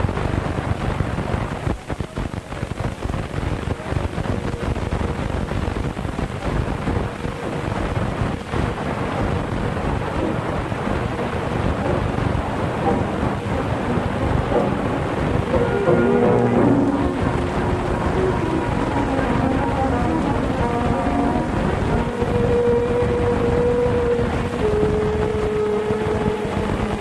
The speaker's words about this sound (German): Dieser Wasserfall liegt beim Städtchen Jajce.